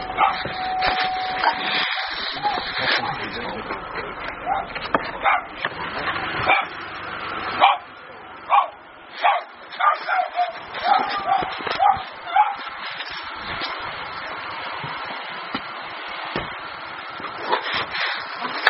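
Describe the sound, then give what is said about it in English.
A puppy barks and yips over and over in quick, uneven bursts, mixed with thin whimpering cries, fairly loud, with a brief steady electronic tone near the start. “Poor puppy just can't.”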